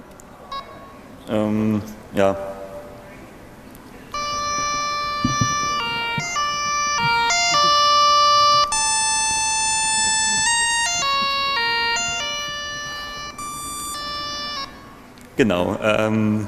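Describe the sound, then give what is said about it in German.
A device plays one of several selectable built-in alarm melodies, used for alarms and countdown timers: a run of buzzy, synthetic tones stepping up and down in pitch at an even, moderate loudness, with brief bits of talk before and after. “jetzt kann man hier aus verschiedenen Melodien auswählen, die sind alle einkompiliert.”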